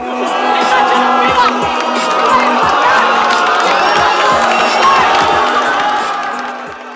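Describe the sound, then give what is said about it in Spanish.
A large crowd at a freestyle rap battle erupts in loud, sustained cheering and shouting, like a goal celebration, after a punchline, with whoops and scattered claps layered throughout, staying intense for several seconds before easing slightly at the end. “Como grito de gol, hace retumbar la ronda.”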